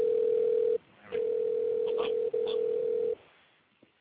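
A steady, mid-pitched telephone dial tone hums loudly, cutting out briefly twice before stopping after about three seconds, with faint voices murmuring underneath.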